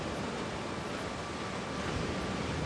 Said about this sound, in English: Grinning, Maya follows him, and our view lingers on the waves lapping onto the shore.